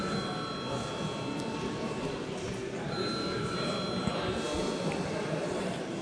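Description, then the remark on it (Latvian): A steady electric bell in a parliament chamber, called by the chair before a vote on a bill, rings continuously for the whole stretch, its bright, high tones holding level, while a low murmur of many voices carries on underneath. “Paldies, lūdzu zvanu.”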